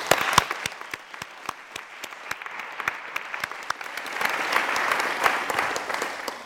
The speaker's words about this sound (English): So if you could join me in giving Anand a round of applause.